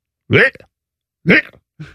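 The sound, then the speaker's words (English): A person imitates a cat retching and throwing up: two loud, strained gagging heaves followed by a shorter, weaker third, each a harsh voiced burst separated by brief silence. “This is a cat. And I'm not talking about a little bit of cat yak.”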